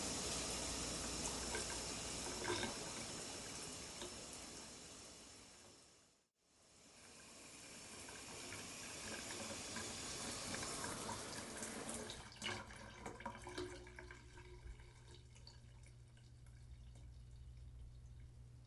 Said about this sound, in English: That was a nice shower.